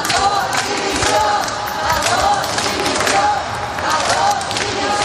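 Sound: crowd shouting in protest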